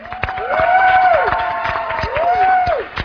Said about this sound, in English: But his spirit will be here with us tonight. So let's give a great round of applause for Reverend Ivan Tsang.